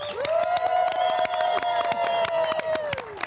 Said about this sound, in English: have you gotten used to all that love and all the applause?